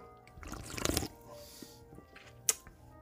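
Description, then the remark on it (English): A short, wet slurping sip of Mike's Hard Lemonade Black Cherry swells and fades in under a second, followed by quiet and a single sharp click or tap near the end. “Let us give it a sip.”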